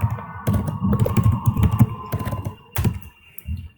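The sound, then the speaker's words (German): Rapid computer keyboard typing and clicking as someone quickly sets up a resolution, a steady patter of keystrokes with a few sharper clacks standing out, over a faint constant background hum. “Ich mach den Beschluss schnell klicken.”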